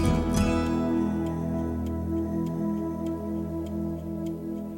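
Steady, evenly spaced ticking like a clock, clicking about twice a second over a sustained, slowly fading musical chord at the close of a song; no voices.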